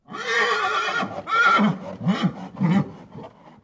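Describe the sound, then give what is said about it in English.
An Arabian horse on Mr. Chupinski's stud farm neighs loudly, a long shrill whinny breaking into several shorter, juddering snorts and nickers that trail off over a few seconds. “An Arabian horse's laughter on Mr.”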